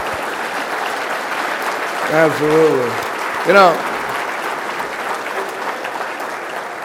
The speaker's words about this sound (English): I think we got to give another round of applause for that American stud.